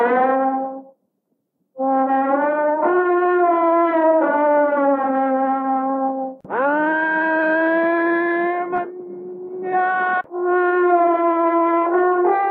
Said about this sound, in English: High in a tree nearby, a little boy in a Tarzan outfit responds to Shirley's calls. An elephant trumpets in response to the boy.